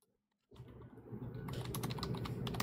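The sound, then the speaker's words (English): Rapid typing on a computer keyboard, entering text into ChatGPT, starts after a brief silence, with a steady stream of crisp key clicks that grows busier and louder, set against a low background rumble. “I like how I can hear you stress vaping and typing into ChatGPT what I said so you can get a response to it.”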